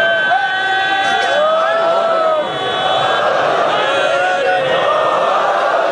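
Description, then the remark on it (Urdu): A large crowd chants slogans in honour and praise of Amir al-Mu'minin, many voices rising and falling in loud, sustained shouts that run without a break for the whole stretch. “یہ صرف اپنی زبان سے نعرے نہیں لگا رہے ہیں, یہ صرف اپنے گلے سے نعرے نہیں لگا رہے ہیں, یہ دل کی گہرائیوں سے امیر المومنین کی عزت اور احترام کے اندر شعار بلند کر رہے ہیں.”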